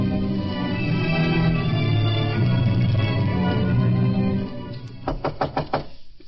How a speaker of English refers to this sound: Come on, open up. We know you're in there. Gus, knock one more time, then you and Arnie kick in the door.